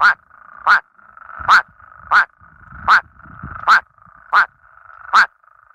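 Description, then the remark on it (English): Eight short, loud quacking calls from a male plains spadefoot toad singing in a pond repeat at a steady, quick pace, each a brief nasal burst, with a faint low rumble between some calls. “They make these short quacking noises.”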